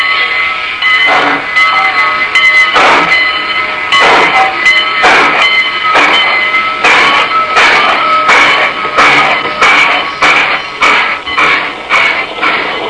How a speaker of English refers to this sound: and I were sitting in the observation car of a Great Valley train at Northbridge, Minnesota.